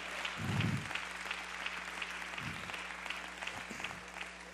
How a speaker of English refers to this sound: I want you to clap your hands if you have done that or if you intend to do that.